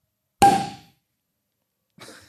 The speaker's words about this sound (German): Klingt also, doch schon mal gut. Experten wissen jetzt allein am Klang des Korkens zu beurteilen, welchen Champagner wir jetzt hier eingießen